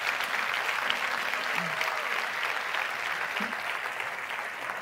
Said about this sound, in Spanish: Si usted quiere, usted aplaude, y si no, no.